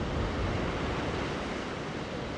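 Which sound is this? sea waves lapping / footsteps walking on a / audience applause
sea waves lapping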